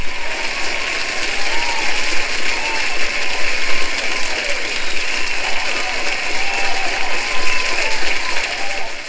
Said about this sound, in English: Oh, guys, you know, I don't need the applause. I don't need the applause, guys. You're going to put that in post, right?